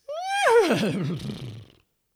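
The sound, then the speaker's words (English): A single voice imitates a horse's whinny in an Opera Southeast performance, for the scene where the horses disembark after Duke William comes to Pevensey: a high, rising call that breaks into a wavering, quavering descent and fades out after under two seconds, loud, with no talking. “Everybody, including you, will then whinny like a horse.”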